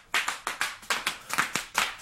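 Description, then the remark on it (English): Bubble wrap pops sharply underfoot, about nine crisp bursts in quick, slightly uneven succession as a 7-year-old boy runs around on 18 feet of bubble wrap rolled out on the floor, with no voices. “Henry started running around on it, something that left Henry both winded and ecstatic.”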